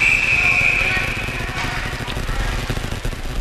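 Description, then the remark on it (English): During an ice hockey game, a single shrill referee's whistle blast lasting about a second stops play after the puck deflects out of play. It rings out over a loud, rumbling crowd, which continues steadily after the whistle. “Another whistle.”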